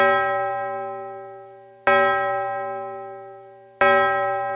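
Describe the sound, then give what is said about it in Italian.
A bell tower clock bell strikes midnight; three strikes are heard at a slow, steady pace, each deep resonant clang ringing out and fading gradually before the next. No voices are heard. “L'orologio del campanile rintoccò 12 colpi.”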